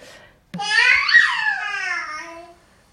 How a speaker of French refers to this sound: Ça, c'est un bébé de 5 mois qui fait un peu tous ces trucs d'exploration. Il est tout seul.